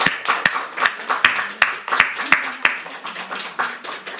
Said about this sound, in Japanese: どうぞ立ってください。はい、拍手を持って歓迎いたします。